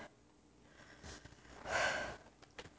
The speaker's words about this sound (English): I can feel it building. Starts as a tightening in my belly. Works its way down. Breathing harder.